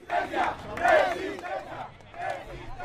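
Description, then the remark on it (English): A crowd of more than 10,000 protesters marching and chanting on Saturday in the Alternative People's Summit march during the Summit of the Americas, many voices rising and falling together in loud, rhythmic bursts with a steady murmur of the crowd underneath. “Alternative Summit featured two full days of conferences and culminated on Saturday in a more than 10,000 people strong march, complete with police prepped in riot gear and helicopters flying overhead.”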